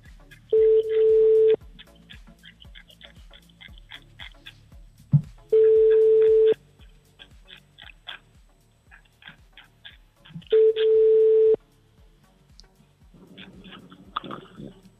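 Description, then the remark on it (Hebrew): Three long tones of a telephone ringback from a call placed to a listener during a live broadcast on Radio Kol Chai, each about a second, steady mid-pitched with harmonics, spaced evenly about five seconds apart, with faint clicks and low background between rings. “טוב, בוא נגיד מזל טוב, בוא נפתיע את מי שרצית שנפתיע, בוא נתקשר אליה, בבקשה.”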